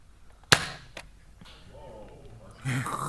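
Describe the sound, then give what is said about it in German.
A toy Nerf foam-dart gun fires with a sharp, snappy pop, followed by a fainter tap about half a second later; muffled voices then start talking. “Wenn jetzt gleich so ein Pinspot runterfällt, weil du da mit der Nerfgun gegen geschossen hast, weiß ich nicht, wer schuld ist.”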